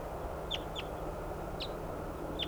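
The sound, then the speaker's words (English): Four short, high-pitched calls from decoy ducks, not wild birds, sound at uneven intervals over a steady background hiss, each a brief, thin quack-like note with gaps between. “These are the decoys calling.”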